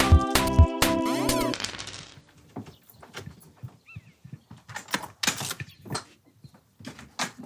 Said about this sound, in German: Hallo, hallo, wer kommt denn da die Tür herein? Hallo, ich bin's.